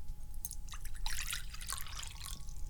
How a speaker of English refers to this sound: Pour the kitty water in the bowl, and apparently the kitty water in the bowl tastes better because the cat followed me down here, and now she's drinking water out of the bowl instead of drinking it out of the kitty cup in the kitchen.